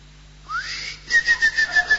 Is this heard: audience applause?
no